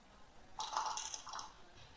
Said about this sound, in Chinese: 假如说我现在这一把我压大啊，那123是小，456是大啊，然后假如这把我说大，我压大啊，然后我就说了叮咚叮咚。 嗯哼。 开始摇骰子。